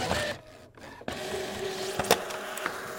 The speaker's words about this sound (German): Das kleine Display lässt sich ausdrucken mit einem Drucker gefüllt mit einer elektrisch leitenden Spezialtinte.